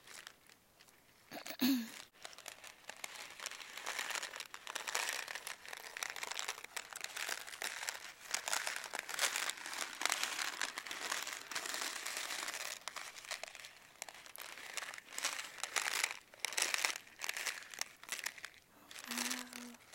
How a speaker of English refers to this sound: It's raining really hard now. It's raining so hard.